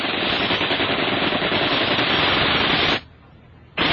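machine gun fire

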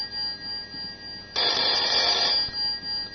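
telephone ringing

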